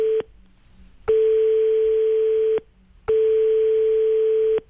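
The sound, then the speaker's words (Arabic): An unanswered phone line ringing as a colleague is called for the latest news: a steady, mid-pitched electronic tone sounds in long bursts of about a second and a half, separated by short silences, repeating over and over with no voices. “نتصور ما ينجمش ما يهزش علينا التليفون يعطينا آخر المستجدات.”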